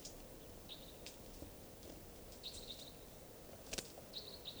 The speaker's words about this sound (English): It sounds like a wild bird around here somewhere at 2:40 p.m. Song. Type 2, I believe.